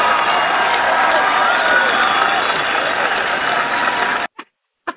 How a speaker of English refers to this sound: The whole crowd has something to say now. They're applauding because we know you have a lot to say.